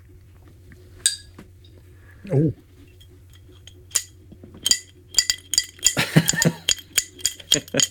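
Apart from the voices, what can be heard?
glasses clinking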